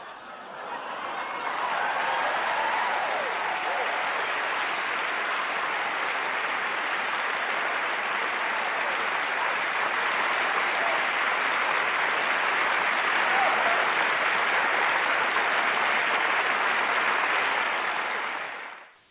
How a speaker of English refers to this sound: Wow, let's clap it up for you, sister, definitely.